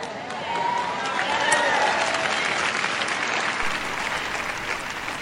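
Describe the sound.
A crowd applauds steadily for about five seconds, a dense wash of many hands clapping at an even, sustained loudness, with a few faint voices rising through it.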